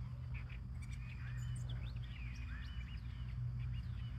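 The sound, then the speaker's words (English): Several birds chirp and tweet in short, scattered calls in a small garden area with trees, layered over a steady low rumble of outdoor background noise; no one speaks. “Recording this outside in the little garden area while looking at some trees, listening to birds and other things.”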